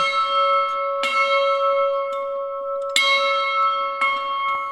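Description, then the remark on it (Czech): A large bell in the brewhouse of a brewery museum, hung in the middle and inscribed 'Dej Bůh štěstí', rings loudly, struck three times at uneven intervals, each clang sustaining a long, shimmering hum that carries over into the next strike. “Nechybí tu zvon, který je hned uprostřed.”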